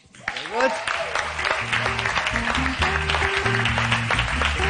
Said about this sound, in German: Begrüßen Sie mit einem krachenden Applaus meinen guten alten Freund